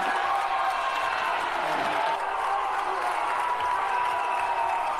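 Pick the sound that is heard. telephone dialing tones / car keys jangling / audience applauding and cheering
audience applauding and cheering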